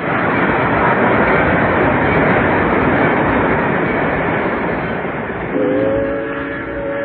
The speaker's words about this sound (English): Kenny thinks, then turns toward the train whistle. They both look out a window and watch the train speed past.